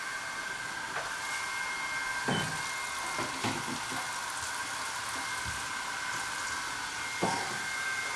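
A hair dryer blows with a steady, even whoosh and a thin constant whine, running throughout while a few soft knocks and clicks pop up now and then. No one speaks.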